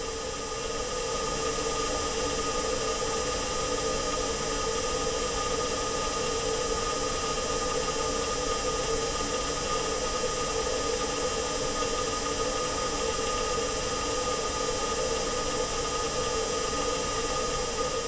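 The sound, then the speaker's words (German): A recording of an interplanetary flight: a steady, harsh, tinny static hiss with metallic tonal bands runs unbroken and fairly loud throughout, sounding almost like digital interference, with no voices present. “Ja, im Prinzip ist es ein sehr blecherner Sound. Klingt schon fast wie ein digitales Störgeräusch eigentlich.”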